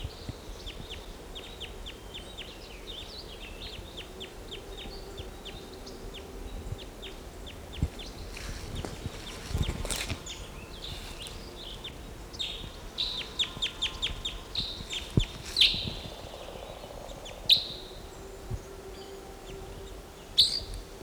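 A bird calls from a tree with quick runs of thin, high chips, pausing between bursts, then gives a few sharper, louder notes toward the end over a steady low hiss. No one speaks.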